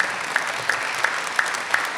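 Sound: audience applause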